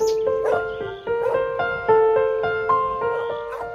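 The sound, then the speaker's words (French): A dog named Garçon barks in a steady series of loud, drawn-out, whine-like yelps, one following right after another with no talking over them, as it arrives among the reeds by a pond in Sologne, France. “Ah bah tenez, on a votre chien qui est arrivé.”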